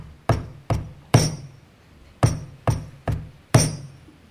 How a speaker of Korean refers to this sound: 주인이 와서, 이것은 전해져 내려오는 이야기입니다. 주인이 쿵쿵거리며 다가오더니 이렇게 노크를 하였답니다.